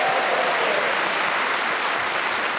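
A live in-person audience at the panel show Just a Minute applauds loudly and steadily for the players Paul Merton, Zoe Lyons, Ria Lina and Giles Brandreth: a dense wash of many hands clapping throughout, with a faint whistle-like tone early on and no talking over it.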